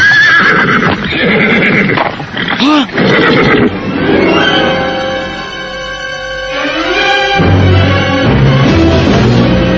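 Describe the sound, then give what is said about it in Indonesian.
A frightened horse that has suddenly stopped neighs loudly and shrilly in agitated bursts, its whinnies rising and trembling, with restless snorting and shifting hooves throughout. “Kuda ini tiba-tiba saja berhenti ketakutan, Kakang.”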